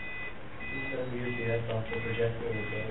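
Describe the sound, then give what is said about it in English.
An electronic device beeps after a power cut, repeated high, thin beeps at a steady interval, moderately quiet, while people talk over a low background hum. “What is that? Beep? What? It's beeping.”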